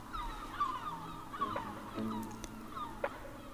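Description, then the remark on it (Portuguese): Several yellow-legged gulls call in loud, overlapping yelps and squawks at an irregular pace over a steady outdoor background hum. “No Conta-me um Canto de hoje, falámos da gaivota de patas amarelas.”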